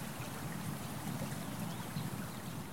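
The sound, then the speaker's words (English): Water in a stream in the woods trickles and burbles steadily, a soft continuous wash of sound with no pauses. It is fairly quiet and even throughout, with no voices present. “the sound entwining with the wind and the birds, the whispering water.”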